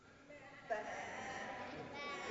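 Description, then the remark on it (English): A crowd of children in a room imitating sheep on a speaker's request, a loud overlapping chorus of wavering baa-like bleats that swells after a moment and holds steady, with a roomy indoor sound. “All the children in the room, make a sheep sound for me.”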